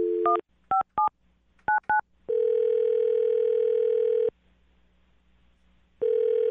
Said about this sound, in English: Well, I'm going to dial his phone number now and see why he's not calling you back, okay?